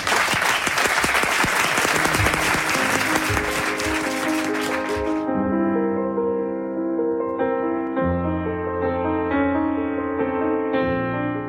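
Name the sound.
theatre audience applause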